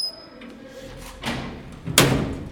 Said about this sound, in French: Nous voilà devant la prison de Bolé. Les portes s'ouvrent.